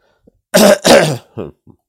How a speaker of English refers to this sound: one moment. I had to cough.